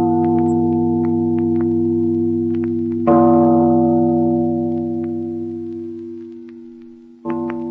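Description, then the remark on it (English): A big bell tolls loudly, struck three times several seconds apart, each stroke leaving a long, humming resonance that slowly fades. No voices are heard. “Listen to the bell. It rings in spite of her.”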